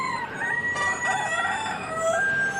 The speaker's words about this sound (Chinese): 就在我正庆幸的时候，我没有再听到人的声音，但我却听到了鸡叫声。